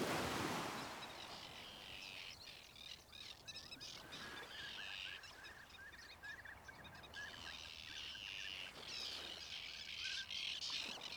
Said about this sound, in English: And when you look up, you notice a flock of Arctic terns soaring in the sky.